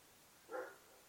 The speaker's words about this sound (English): God, sounds like a big old dog. Oh, I'm going to get him. You don't understand, like, here where I live, there are nothing but chihuahuas. So when you get a big dog, that dog sounds huge.